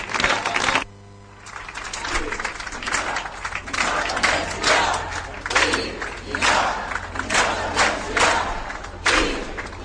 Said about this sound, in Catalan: gaudiu de l'aplaudiment que us ofereix tothom.